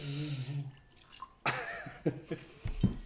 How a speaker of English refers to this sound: Let's pour some whiskey before we start this one.